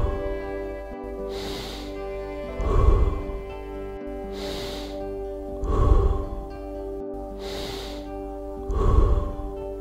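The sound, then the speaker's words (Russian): Three slow, deep full breath cycles in a breathing exercise, each a hissing inhale followed by a heavy, gusty exhale, repeating in a steady rhythm over a soft, sustained droning tone. “Еще 10 полных вдохов и задержка.”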